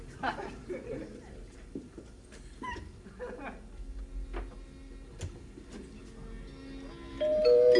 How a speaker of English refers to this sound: Pop, doorbell! I'll get it.